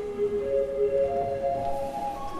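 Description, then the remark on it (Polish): A pipe organ's flute stop plays soft, steady sustained notes with a pure, breathy tone, shifting to a new chord partway through. No voices are heard over the music. “niech nam pan pokaże brzmienie fletowe w tych organach.”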